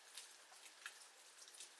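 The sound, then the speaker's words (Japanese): Soft, steady rain with a dense hiss of small drops and occasional brighter patters, fairly quiet and continuous, with no voices. “うん、でもこの降り方だとなかなか止まないと思うわよ。”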